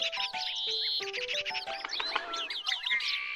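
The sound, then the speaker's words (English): A busy chorus of birds chirping and trilling, with many overlapping quick high calls and whistles filling the whole stretch, steady, with no voices. “Well, aren't the birds fun?”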